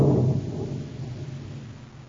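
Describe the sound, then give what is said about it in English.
A low, heavy rumble of thunder from an approaching storm rolls in, loudest at the start and then slowly fading into a long, deep grumble, with no voices present. “I'd like to get this job over with before that storm hits us.”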